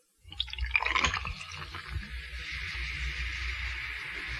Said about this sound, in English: I've been sitting here for the last 48 hours with this open bottle, and I swear, under penalty of perjury, that this bottle has not been capped for the entire 48 hours. Now I'll just pour a glass here, and let's see if it's lost any of its fizz.